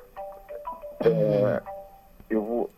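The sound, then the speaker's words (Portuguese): A mobile phone belonging to an interviewed professor rings with a short electronic melody of bright, steady beeping tones, followed by two louder tuneful bursts that break off abruptly as the phone is switched off. “Desligue seu telefone, agora o senhor está ocupado conosco, o senhor é todo nosso agora, professor.”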